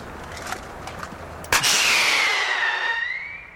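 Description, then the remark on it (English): A sharp pyrotechnic bang goes off as a screaming rocket is shot from a cap gun into the night air to scare off crows, followed by a loud whistling screech that slowly falls in pitch and fades over a couple of seconds, with a few faint pops beforehand. “He's going to put the laser in there, and we're going to do the pyrotechnic again.”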